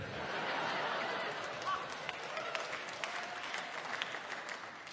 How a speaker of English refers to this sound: Please hold your applause. No, please don't hold your applause.